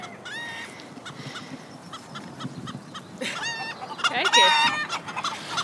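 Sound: chicken clucking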